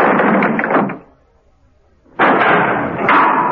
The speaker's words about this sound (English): Seconds later, there was a slam of the cell door. Martin Esdorf was free.